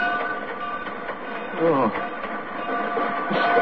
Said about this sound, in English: This is the sound of a roundhouse at midnight. It really is. This is where they're doing it.